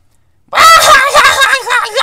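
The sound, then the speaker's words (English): A voice imitates a frantic, squawking wounded chicken, a loud, harsh, wavering cluck-and-screech that bursts in after half a second of silence and carries on nonstop for about a second and a half. “And these gals, they weren't middle-aged, they're old, but they're just yakking, squawking like a freaking wounded chicken.”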